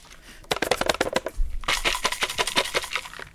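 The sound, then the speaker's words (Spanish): Crunching bites into fried chicken for an ASMR recording, a rapid series of crisp, crackly snaps that thicken into dense, bright crackling in the second half, with no talking. “Vamos a hacer un ASMR.”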